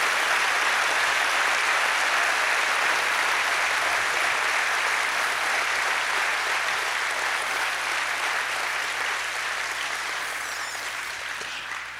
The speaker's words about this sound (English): Is that a great feeling? If you feel good about that, clap your hands.